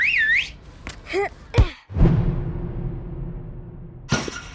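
A mouth-whistled warbling trill, made in place of a whistle, rises and falls rapidly, followed by a few short sliding whistle sweeps, then a sudden loud bang of a ball being shot, with a long noisy rumble trailing after it.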